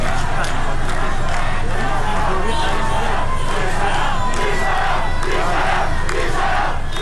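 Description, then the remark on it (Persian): A large crowd of protesters in the Saadat Abad neighbourhood of Tehran chants slogans on a Wednesday evening in loud, rhythmic bursts of shouting, with car horns honking, over a dense, continuous roar of voices that stays at a steady level for the whole seven seconds. “در تهران در محله سعادت آباد معترضان گرد هم آمده و اعتراض خود را با سر دادن شعار و به صدا درآوردن بوق خودروها نشان می‌دهند.”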